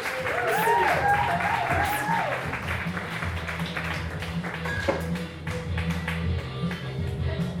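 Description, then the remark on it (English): A crowd in a rock and roll club claps loudly and steadily throughout as the first comedian comes to the stage, with rising whoops and cheers in the first couple of seconds over a low, constant hum underneath. “Start clapping your hands right now. And make some noise”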